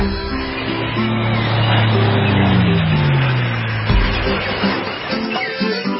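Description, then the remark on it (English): A short radio music intro for the beach and boating forecast, brought to you by Freedom Boat Club of Tampa Bay. Sustained low tones and a sliding, descending pitch play over a steady rumbling bed that resembles a motorboat engine, loud and continuous for several seconds before thinning out. “All righty, when you hear that music, you know it's time for the beach and boating forecast brought to you by the Freedom Boat Club.”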